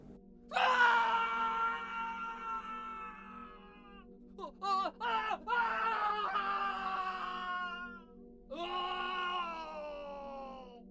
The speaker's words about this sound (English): It could have been no more than instinct that had me stop running as soon as another horrified screech echoed across and between the trees.